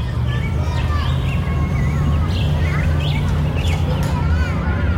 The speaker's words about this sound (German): Draussen ist Sommer und die Vögel pfeifen und die Kinder sind am Spielen.